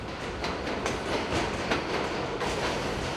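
A crowded subway train runs along the rails at about 5 in the morning with a steady, loud rumble, broken by regular clicking clatter from the wheels passing over track joints, with no voices.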